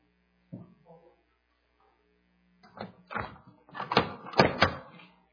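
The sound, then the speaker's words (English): A door swings on its hinges, giving a series of rough creaks and groans that grow louder toward the end, with a low hum underneath and a brief faint sound near the start. “Put your finger in here, and somebody can just almost just blow on the door.”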